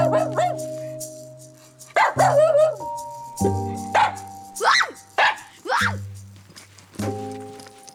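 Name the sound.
dogs barking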